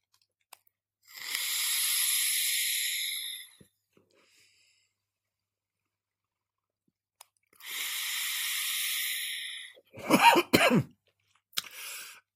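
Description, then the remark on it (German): Two long, steady hissing inhales from a TFV4 e-cigarette tank vaped at 115 watts with Thai Chai Boba on the Rocks liquid from PJ Empire, each lasting a couple of seconds, followed by a burst of coughing and a short harsh throat sound at the end. No one speaks. “Und ich würde sagen, wir gehen jetzt gleich in Medias Res und ich nehme einen Zug aus meinem TFV4, mit 115 Watt mit dem Thai Chai Boba on the Rocks Liquid von PJ Empire.”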